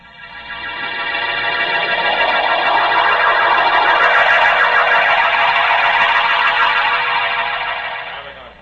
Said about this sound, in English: Now turn on that siren. Yes, sir.